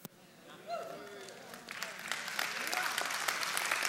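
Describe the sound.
Audience applause starts sparse and swells into steady, dense clapping that grows louder through the end, with a few voices calling out near the beginning.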